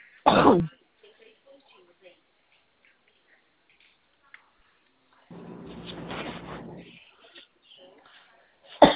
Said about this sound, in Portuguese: Eu tô com uma crise de tosse. Tô gripada.